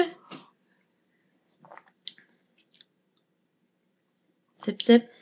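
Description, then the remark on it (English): A few quiet sips of coffee made with a tablespoon of butter, with soft mouth and lip clicks, brief, between short bursts of vocal sound at the start and end. “Sip. It's a little bit thinner.”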